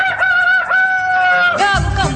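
A rooster crows loudly and close by, a long drawn-out cock-a-doodle-doo with rising and falling pitch. No voices accompany it, and a low rumble enters near the end.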